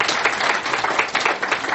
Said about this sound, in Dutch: Er zit nog iemand achter de knoppen, dat is ook. Hij hoort er ook allemaal helemaal bij. Je ziet hem niet, maar hij. Heeft wel ja, geef maar een applaus.